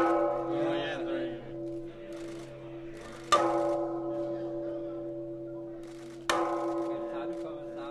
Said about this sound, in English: The guides also made sure she stopped at a massive bell and handed her an ornate red and gold stick. Strike hard.